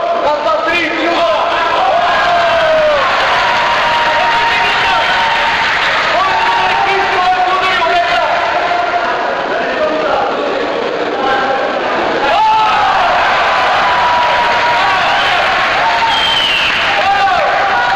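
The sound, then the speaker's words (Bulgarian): A boxing crowd cheers and applauds local boxers without pause, a dense, loud wash of clapping with individual shouts and whoops rising above it, swelling again near the end. “Всички без бебе бурно подкрепяха местните боксьори.”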